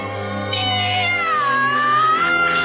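A cat lets out one long, drawn-out meow, loud and close, its pitch sliding down and then rising again over a steady low hum.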